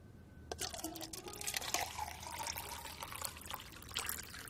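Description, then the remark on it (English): Tea is poured steadily into a cup, a continuous splashing trickle whose pitch rises gently as the cup fills, lasting several seconds with no voices. “Would you pour me another tea?”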